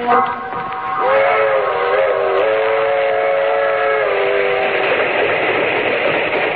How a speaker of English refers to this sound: That train is the Southeast Limited. See it? Long, sleek, and powerful. Flicking off the miles on the humming rails. A masterpiece of 20th century mechanical perfection.